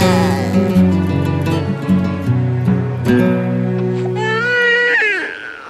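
A newborn baby girl cries in a hospital in a thin, wavering wail that rises toward the end, heard over steady sustained low tones like background music.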